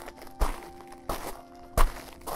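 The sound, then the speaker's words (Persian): Slow, evenly spaced footsteps of pilgrims walking during Arbaeen toward Karbala thud one after another, about four heavy steps with a faint background hum between them and no one speaking. “اما در اربعین بیشتر دلم می خواهد صدای قدم ها را بشنوم.”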